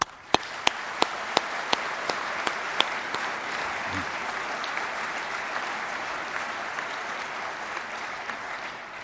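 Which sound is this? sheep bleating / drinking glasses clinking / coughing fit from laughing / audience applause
audience applause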